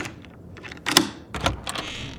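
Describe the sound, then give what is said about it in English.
A few sharp knocks on an apartment door, fairly loud, landing in an uneven rhythm over quiet with no voices. “It was just days after Robin's death when Huey heard a knock on his apartment door.”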